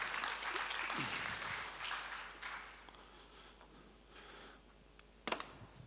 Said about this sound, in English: Give these guys a round of applause as they come forward.